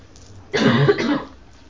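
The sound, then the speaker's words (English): A fairly loud cough, a quick pair of harsh bursts lasting under a second, with no talking and only quiet background noise before and after. “I'm cough.”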